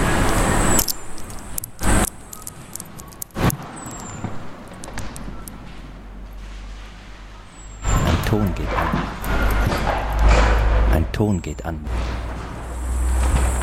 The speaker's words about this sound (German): Ein Ton geht an. Wieder ein Auto.